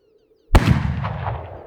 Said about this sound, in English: I'm woken by a gunshot.